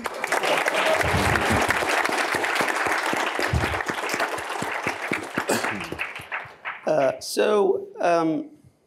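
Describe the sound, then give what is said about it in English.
A crowd claps steadily for about six seconds for a Joseph Story Award winner, a dense wash of applause that fades out before a man starts speaking. “We could clap.”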